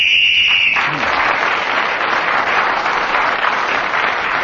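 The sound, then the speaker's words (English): A shrill, steady whistle blast lasting under a second signals the end of the round, and loud applause immediately follows and carries on to the end. “Well, Clement gained points in that round, including one for speaking as the whistle went.”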